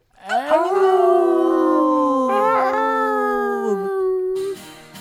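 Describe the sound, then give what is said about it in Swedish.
A dog lets out one long, loud, drawn-out howl along to a song, its pitch wavering and sliding for several seconds before breaking off, followed by a brief burst of noise. “Det ylar vi på.”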